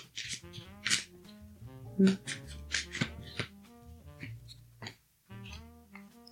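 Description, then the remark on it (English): A deck of cards being shuffled to draw affirmations, several quick papery riffles and flutters spread across the moment, with soft tonal music humming steadily in the background. “Okay, I'm going to shuffle these cards and see what we need to affirm.”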